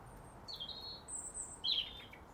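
A small bird sings a chippy little song in the middle of a bush: three thin, high-pitched chirping phrases in quick succession, fairly faint over a soft background hiss, with no voices.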